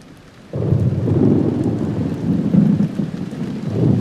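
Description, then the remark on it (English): A thunderstorm in Darwin during storm season: after a brief quiet moment, a deep rumble of rolling thunder swells and lingers, with steady rain pattering throughout, loud, no voices. “It's storm season in Darwin.”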